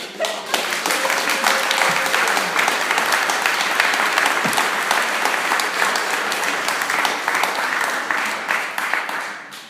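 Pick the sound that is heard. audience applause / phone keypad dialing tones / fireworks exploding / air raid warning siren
audience applause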